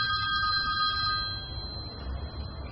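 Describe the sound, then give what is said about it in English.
A phone's electronic text-message alert tone sounds as a steady, bright chime that holds throughout, over a low background rumble, with no one speaking. “Now he's received a text, which can only be from her.”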